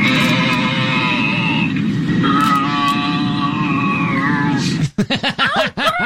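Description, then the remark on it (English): Loud, drawn-out moaning over an airplane's public announcement system during a flight, wavering in pitch for several seconds, then breaking into a string of short, choppy grunts and groans, all with a rough, distorted tone. “Ladies and gentlemen, we realize there is an extremely irritating sound coming over the public announcement.”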